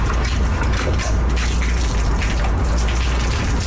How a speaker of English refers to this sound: Aw, the sweet sound of shotgunning beers. That was foam. The foam gust stuck in my throat. I couldn't swallow all of it.